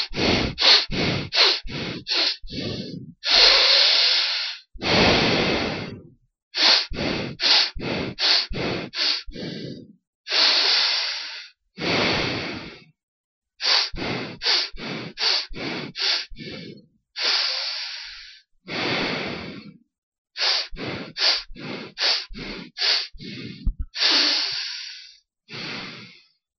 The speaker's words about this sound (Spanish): en realizar 20 respiraciones seguidas en grupos de 4 respiraciones cortas y una larga, de la siguiente manera. 4 cortas, una larga, 4 cortas, una larga, 4 cortas, una larga, 4 cortas, una larga, completando así 20 respiraciones. Así más o menos.